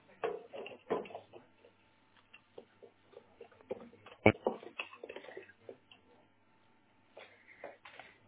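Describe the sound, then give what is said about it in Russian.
A plastic internet cable plug is pushed back into a router port and snaps in with one sharp click midway, surrounded by soft fumbling and tapping of handling, faint muffled voices in the background, all thin and phone-like. “И сейчас ставить его до щелчка плотно.”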